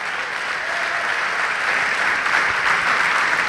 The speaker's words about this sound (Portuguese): Vamos aplaudir ao Senhor por isso.